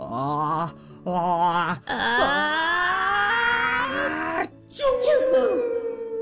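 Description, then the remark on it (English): A voice acts out a huge, exaggerated sneeze: two wavering, drawn-out breathy build-ups, a longer rising wail, a brief pause, then a loud explosive release that trails off, all quite loud. “I've got one last sneeze for you, Thule. Are you ready? Because this is the big one.”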